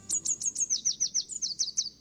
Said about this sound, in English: If you know how to distinguish it, the song of the red warbler is enough to tell you whether the morning is clear. No need to get out of bed or check the weather forecast. During the breeding season, between February and May, they happily sing